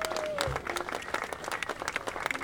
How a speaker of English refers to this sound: So give a round of applause for the saxophone players for showing up.